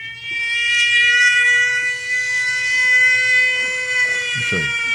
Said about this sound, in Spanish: ¿Qué es lo que escuchamos? Bueno, escuchemos esta alarma. Tú estás durmiendo. A cualquier hora. A cualquier hora y oyes esto.